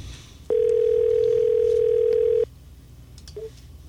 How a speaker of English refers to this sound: Number's in. It's ringing. Let's see who we get. Here we go.